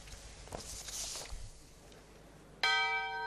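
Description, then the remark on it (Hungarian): A single loud bell strike rings out near the end and sustains with a bright, shimmering tone, following a stretch of bustling outdoor crowd noise and footsteps: the Hungarian head of state's wife, Schmidtné Makrai Katalin, rings the bell to open the 2nd Hungarian Craft Flavours fair at Millenáris. “Harangkongatásra nyitotta meg az államfő felesége, Schmidtné Makrai Katalina II.”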